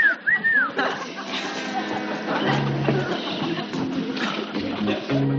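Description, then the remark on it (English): A pet talking bird gives a couple of quick rising whistles, then breaks into steady squawking, raspy chatter, fairly loud for several seconds. “Everything that bird knows, he learned from me.”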